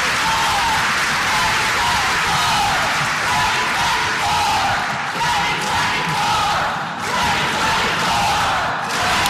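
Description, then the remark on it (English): A large crowd at Pete Buttigieg's rally, where he suspended his 2020 presidential campaign, roars, cheers and chants "2024" continuously. Voices blend into a loud, dense wall of shouting and whooping that stays intense from start to finish, recorded slightly distorted. “We tried to trim back audio best we could there, but as the crowd chanted out 2024,”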